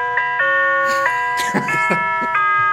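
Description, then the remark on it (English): A doorbell-style chime from a phone app plays a short melody, the happy birthday tune, as a sequence of clear electronic tones held at changing pitches, with brief rustling bursts in the middle. “Oh, doorbell version.”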